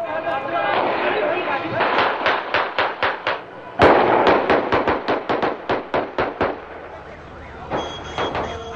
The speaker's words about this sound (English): In Baghdad, news of Saddam's capture was greeted with cheers and celebratory gunfire.